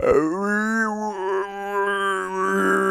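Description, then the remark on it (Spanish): A rutting deer's bellow imitated on a call: one loud, unbroken, low moaning roar with a rough buzzy edge, held steadily for about three seconds with no talking. “Este es un venado recién traído de Centro Europa que está aquí dándolo todo.”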